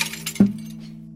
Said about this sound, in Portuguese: bate forte com sua mão contra o espelho pra poder quebrá-lo. Faz o barulho aí, gente.